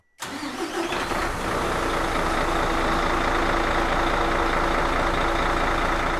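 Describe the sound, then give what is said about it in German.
A Mercedes-Benz winter road service truck's heavy engine turns over and rumbles to life, then settles into a loud, steady diesel idle with a low throbbing drone for several seconds, in rural Lichtenfels-Gottelsheim, North Hesse, Germany, where it keeps the road clear in winter. “Jeden Tag im Winter sorgt dieser Mercedes-Benz Winterdienst-LKW dafür, dass die Straße frei und gut befahrbar ist.”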